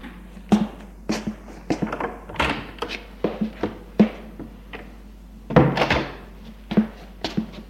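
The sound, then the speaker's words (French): A priest opens a glass door at the end of a passage in an old building, leading into a courtyard, with a run of irregular sharp clunks, knocks and rattles of the frame and latch, fairly loud over a steady low hum. No one speaks. “Dans l'allée d'un vieil immeuble lugubre, il l'amène à l'autre bout, ouvre une porte vitrée qui donne dans une cour.”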